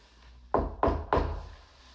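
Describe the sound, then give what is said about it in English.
Three firm knocks on a wooden door in a quick, even rhythm, fairly loud, each ringing briefly before fading into a quiet background hum. “God is knocking at the door of your heart.”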